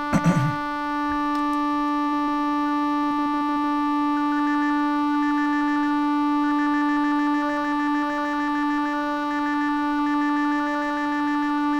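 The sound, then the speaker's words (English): A sustained electronic synthesizer drone with stacked steady harmonic tones, a sharp attack at the start, then shimmering, wavering upper partials washed in reverb, loud and continuous with no talking; the synthesizer's vowel and formant panels are being scanned and reverb is added. “Let's add some reverb.”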